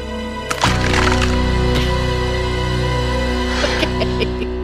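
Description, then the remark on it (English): A sudden hard slam of a waffle iron's hinged metal lid being smashed down on a woman's hand, followed by a few smaller knocks and rattles, over a steady low droning hum that runs throughout. “she sticks her hand in a big bowl of ice cubes and then in the waffle iron, fortifying herself with scotch before smashing the top down hard”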